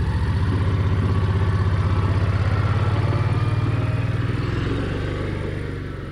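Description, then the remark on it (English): A small garden cart engine starts up on a farm, the cart used to carry people from the tomato field back to the farmhouse, running with a steady, rapid low chugging and rattling clatter, loud throughout and easing off slightly toward the end. No one speaks. “starts up the little garden cart she uses round the farm to take us from the tomato field back to the farmhouse.”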